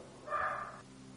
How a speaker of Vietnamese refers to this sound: Quý vị cũng có ở chùa này, không biết con chó nó sủa cả. Thầy giảng pháp một ngày ngon lành hay ho như vậy, con chó nó sủa bên cạnh, ồn với thầy tưởng.